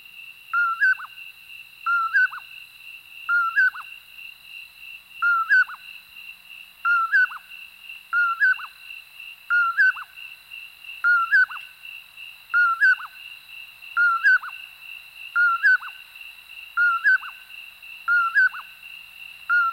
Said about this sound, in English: Among the sagebrush and chaparral habitats of the West lives our smallest native nightjar, the common poorwill. Like its relatives, it seems to whistle its own name, poorwill or poorwillip, repeated over and over again.